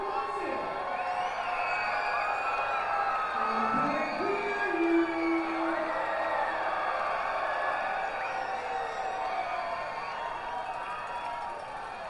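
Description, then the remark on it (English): A large ballpark crowd at a Lansing Lugnuts baseball game cheers and whoops in a steady, dense roar as the on-field MC urges them on, with a few individual yells standing out early on, then the noise slowly eases off toward the end. “getting the crowd into it. And now those cheers start to die down.”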